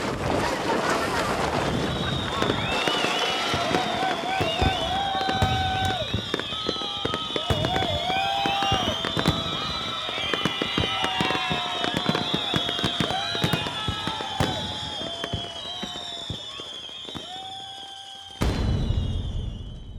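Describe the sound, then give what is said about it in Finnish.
Strong wind roars across an open summit, buffeting the microphone with loud, crackling gusts and a steady low rumble, while faint whistling tones drift through. The wind stays loud and continuous throughout. “Eikö se, …, niin ole, että siellä huipulla tuulee? Joo, kyllä täällä tuulee.”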